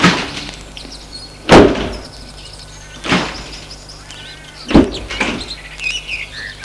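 Three solid car door thuds as people get out of a car, about a second and a half apart, with birds chirping and tweeting steadily in the background and no one talking.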